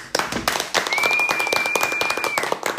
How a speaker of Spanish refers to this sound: Oiga, fuera de chiste, primera vez que se escucha un aplauso tan lleno en todo este podcast. Uno de verdad.